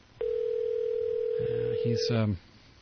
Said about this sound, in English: Let's see if we can get a hold of him. I'm ringing him here. Maybe we can catch him on the line and get the latest update.